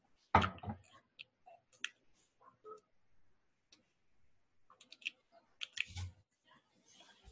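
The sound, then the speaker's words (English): Irregular keyboard typing with scattered clicks and taps, a few sharper louder keystrokes among softer ones, fairly quiet, with no one speaking. “As you're typing this, I just realized oath is also a correct answer.”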